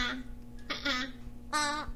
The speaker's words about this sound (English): A squirt, the crow.